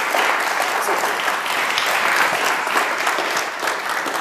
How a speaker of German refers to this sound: Ich würde sagen, wir starten einfach einen großen Applaus für